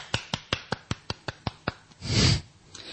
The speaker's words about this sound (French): Ah, c'était une magnifique introduction, un magnifique jingle. Je suis fier de moi, je m'applaudis.